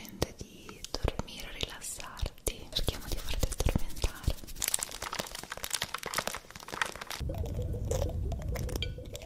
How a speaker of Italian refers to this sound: Quando gli mettiamo in camera una cassa Bluetooth collegata a un video di ASMR, i due si addormentano all'istante, senti un po'.